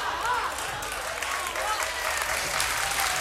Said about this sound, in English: Those claps are a little dry. You see, it was a slow build to that.